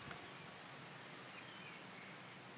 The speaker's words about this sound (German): Ja, oh, ist das schön, weiß gar nicht, regnet das toll. Ich tue mal das Mikro ausrichten, hört ihr ein bisschen den Regen?